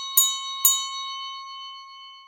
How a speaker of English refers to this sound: 10 minutes later, the bell rang for afternoon tea.